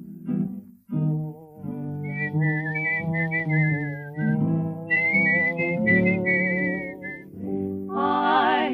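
Someone whistles a bright, steady melody over a full instrumental backing. The whistled line carries clearly above the accompaniment, running through several phrases with a rising trill near the end.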